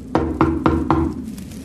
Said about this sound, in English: Then a knock on the door.